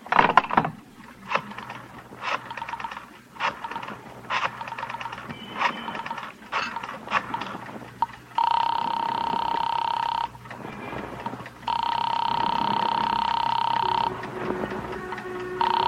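A telephone is dialed to a jewelry shop at 11:30 at night, with bursts of rapid mechanical clicking, followed by two long, steady rings separated by a short pause, fairly loud with no talking.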